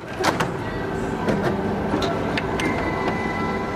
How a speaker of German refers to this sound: Aber dieser Drucker steht nicht in einem Großkonzern, sondern in einem kleinen Copyshop in Oldenburg-Harentor.